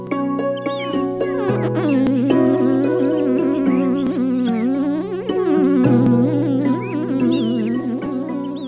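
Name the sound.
bee buzzing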